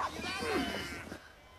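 A sheep lets out a wavering, drawn-out bleat as Jack drags it to a group separated from the flock. The bleat lasts about a second over a low rumble of background noise before it fades.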